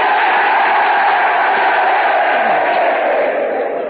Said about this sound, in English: And here's a cheer from the men of the USS Prairie State.